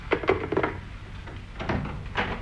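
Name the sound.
door being opened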